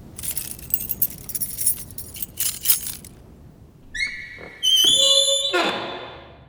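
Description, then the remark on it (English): Keys jangle and clink for a few seconds to open a school building, followed by a sharp metallic scrape and a bright ringing tone, like a key turning in a lock and a door opening. “Do you have the keys?”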